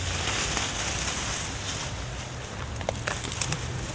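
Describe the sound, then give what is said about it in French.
Bindweed plants are pulled up by hand: a steady crackly rustle of leafy stems, with a few sharper tearing snaps toward the end and no voices. “Je vais tirer les. Oh, parce que ça, c'est. Ça me. Ah, mon pot, il était en dessous des liserons, tu vois.”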